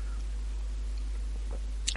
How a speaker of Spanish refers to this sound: voy a darme un traguito porque he empezado muy fuerte y ya tengo la garganta hecha polvo.